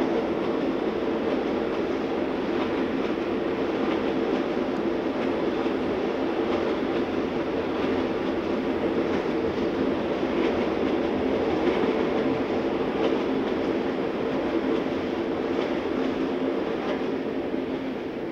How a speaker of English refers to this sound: India has a wonderful railway system. I appreciate more hearing it from the outside than from the inside.